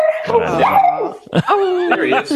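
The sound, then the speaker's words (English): A beagle bays and barks, loud drawn-out wavering howls in two bursts separated by a brief pause. “There he is. Awesome dog. I love beagles.”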